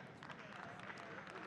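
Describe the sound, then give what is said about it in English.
An audience claps, a dense, steady patter of many hands at an even loudness throughout, with a murmur of crowd voices mixed underneath. “You ain't got to clap.”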